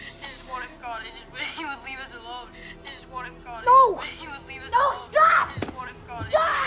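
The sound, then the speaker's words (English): A single sharp bang as Andy shuts the closet doors on Chucky cuts through excited, agitated voices, which keep talking loudly around the impact. “Shutting the closet doors, Andy leans against them for a moment, then grabs his phone.”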